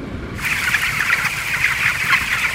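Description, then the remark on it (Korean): A dense, steady din of many chickens clucking and chattering together inside an automated poultry house at Richardson's chicken farm, where machines handle feeding and temperature control, starting abruptly and continuing without pause, with no voices. “더른 시설의 양계장은 자동화 시설이 돼 있어서 모이부터 온도 조절까지 사람이 아닌 기계가 알아서 돌아가는데요.”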